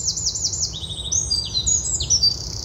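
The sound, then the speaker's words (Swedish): A Eurasian wren sings in spring, a rapid, high-pitched torrent of trills and chattering notes, loud, continuous throughout over a low background rumble. “Och gärdsmyggen är ju”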